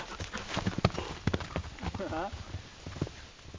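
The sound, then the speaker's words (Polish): Hooves of a forester's horse, Harley, clop on asphalt with sharp, irregular strikes, and a brief voiced sound rises in the middle amid faint background noise. “Bo jak się go w galop puści, to dosyć mocno dudni po tym asfalcie.”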